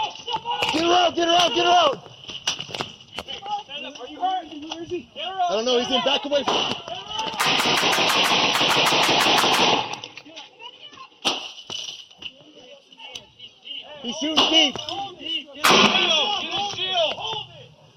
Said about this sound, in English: In that back and forth of gunfire, two officers were struck, and while the suspect's aim was pretty good given the circumstances, both officers were incredibly lucky.